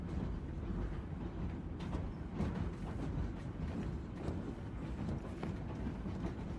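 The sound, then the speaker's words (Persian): A moving train, heard from the seat where it is driven, rumbles steadily with faint rhythmic clacks and rattles over the tracks and no voices, the loud low drone holding even throughout. “ای پدر ما که در آسمانی، ازت ممنونیم که تونستیم بیایم جایی بشینیم که قطار رو برونن و ممنونیم که تا اینجا رسیدیم.”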